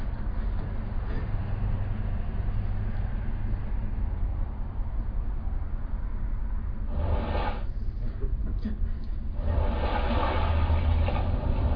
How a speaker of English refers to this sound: So while you're playing in this idyllic environment, there's birds, all kinds of things. And there's also the sound of the ocean.